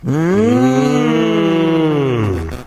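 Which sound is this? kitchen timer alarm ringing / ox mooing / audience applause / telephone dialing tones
ox mooing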